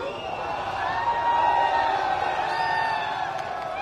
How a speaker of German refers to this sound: Dennoch haben sich früh am Morgen heute viele Menschen vor dem Gefängnis in Neu-Delhi versammelt, wie auf Fernsehbildern zu sehen ist. Kurz vor der Hinrichtung zählen sie einen Countdown herunter und jubeln.